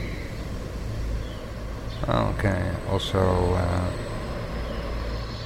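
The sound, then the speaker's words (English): A steady, rumbling wash of stretched traffic noise that resembles stormy sounds runs through the whole clip, with a low hum underneath, while a man speaks briefly over it in the middle. “And, well, to my own surprise, the stretched sounds of the birds and traffic resemble stormy sounds sometimes.”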